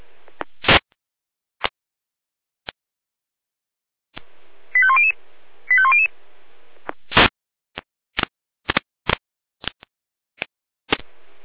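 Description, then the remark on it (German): Sharp radio clicks and pops at irregular intervals surround two brief bursts of stepped, high electronic alert tones, an alarm call from the Jena fire brigade dispatch centre (Leitstelle Jena) for a building fire in Bürgel. No one speaks. “Jena Alarmruf.”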